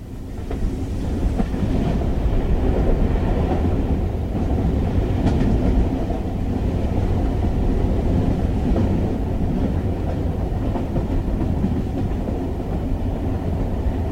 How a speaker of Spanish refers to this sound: Ahora vamos a escuchar así de fondo un sonido de tren, así nos metemos así como en clima.